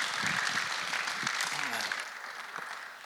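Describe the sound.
An audience claps for a pastor in a dense, steady wash of applause that holds for about two seconds and then fades, with a few voices murmuring and calling out underneath.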